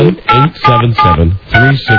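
A quick run of telephone keypad tones, about five loud beeps in short bursts with brief gaps between them, as a number is dialed and a busy signal is reached.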